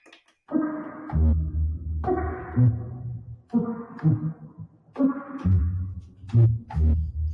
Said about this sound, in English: This is quite a fun one. So this is a recording of a longhorn sculpin.